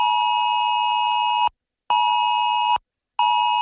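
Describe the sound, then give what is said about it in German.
A loud, harsh electronic alert tone from many mobile phones on Germany's nationwide warning day, around 11 a.m., sounding in long pulses of over a second separated by brief silences, three bursts in a steady repeating pattern. “So klingt's dann am Vormittag wieder von vielen Handys.”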